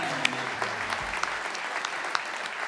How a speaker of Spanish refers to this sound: Bueno, demos un aplauso al Señor, vamos, vamos, vamos.